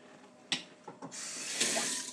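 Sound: water running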